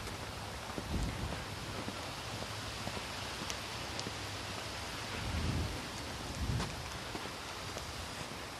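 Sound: rain with distant thunder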